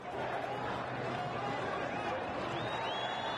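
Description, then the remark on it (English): A large crowd of pro-democracy demonstrators in Tahrir Square, Cairo, Egypt, roars steadily. Many voices blend into a continuous, loud wash of shouting and chanting the rallying cry "Mubarak must go", with no pauses. “Once again, the rallying cry, Mubarak must go.”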